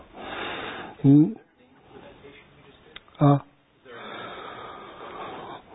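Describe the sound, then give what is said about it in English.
Slow, deep breaths drawn in and pushed out through the nose during a breathing meditation technique, long airy rushes with two short, sharp snorting bursts between them. “This is called like 21 breathing meditation, a little bit, you know, different technique, you know, add up a little bit, you know, so, and something like, you know, about breathing in, breathing in now, so breathing in is complete”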